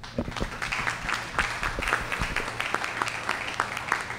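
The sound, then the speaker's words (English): An audience applauds the JSO Honor Guard steadily, a dense patter of many hands clapping at moderate loudness throughout, over a faint low hum. “Round of applause again for the JSO Honor Guard.”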